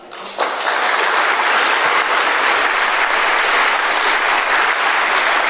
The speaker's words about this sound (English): And that applause went on for quite a long time.